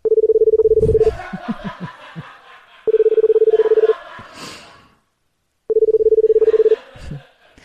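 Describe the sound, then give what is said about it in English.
Three loud electronic beeps in a video, each a steady mid-pitched tone lasting about a second, repeat at even intervals while a man wiggles his tongue to them, with quiet snickering and voice sounds filling the gaps between them. “Yeah, so for those of you just listening, he wiggles his tongue to the beep sounds, and then he writes, look what I can do.”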